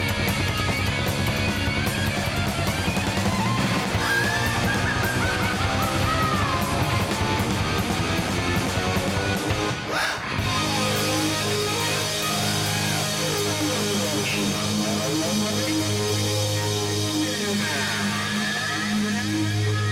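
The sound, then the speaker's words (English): A loud, dense rock ending of distorted guitars and pounding drums, a chaotic wall of sound that stays at full volume throughout, with a brief break midway before crashing back in. “the big rock ending for … from …”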